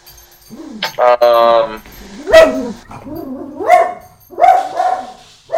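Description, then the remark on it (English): A dog named Max barks in a series of loud, sharp bursts, including one longer, drawn-out yelp, with short pauses between the barks. “There's a dog barking.”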